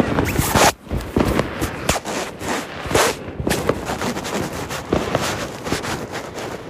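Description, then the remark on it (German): A dense, nonstop barrage of fireworks still exploding outside six minutes after midnight: sharp bangs and crackling pops overlap in rapid, irregular bursts over a steady rumbling hiss, with no one speaking. “Die schießen 6 Minuten nach Mitternacht noch.”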